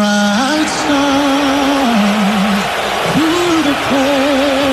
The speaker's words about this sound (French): Lors de l'hymne national, l'image du président américain est apparue sur l'écran géant et c'est ce moment bien précis qui a déclenché les huées de nombreux spectateurs.